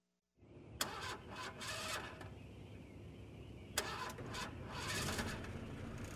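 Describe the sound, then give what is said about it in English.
A car engine churns and sputters unevenly, with sharp clanks and bursts of rattling noise over a steady low rumble. It is moderately loud, and no one speaks. “What's your car doing? It's making strange noises.”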